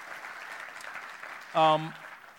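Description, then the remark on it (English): Steady audience applause for a church movement's leadership team and their wives, a dense wash of clapping throughout, briefly joined by a loud tonal whoop or cheer from the crowd before the clapping continues. “Could we give them a round of applause and their wives as well?”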